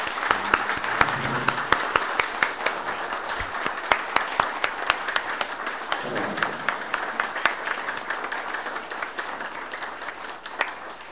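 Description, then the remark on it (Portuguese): A crowd applauds steadily for about eleven seconds for people of a municipal school presented to the audience, a dense patter of many hands clapping at even loudness, with a faint murmur of voices underneath. “Uma salva de palmas, pessoal.”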